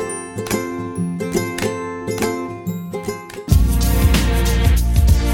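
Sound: bell ringing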